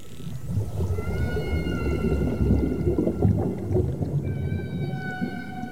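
Long, steady underwater whale and dolphin calls with stacked harmonic whistles, two drawn-out tonal cries over a constant deep rumbling wash, fairly loud and with no voices.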